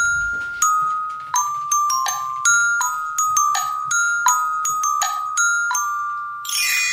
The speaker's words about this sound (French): Oui, j'avais envie d'une virgule. Ça faisait longtemps que nous ne l'avions pas eu, ce petit carillon. Donc voilà, c'était l'occasion ou jamais.